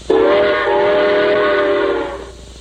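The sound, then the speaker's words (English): A single loud, steady train whistle blast with a rich, chord-like tone, held for about two seconds before cutting off, with no voices over it. “All right, now, how does a train go?”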